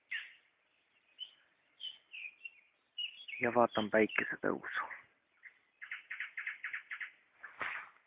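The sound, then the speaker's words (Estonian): Morning birdsong at 5:35 a.m. by a river among trees, about half an hour after sunrise, with nightingales singing: bright, rapid chirping phrases repeat near the start and again toward the end, while a man speaks briefly in the middle over the birds. “Olen teres hommikus koos jõe, koos puude, koos ööbikute ja metsintidega ja koos sääskedega.”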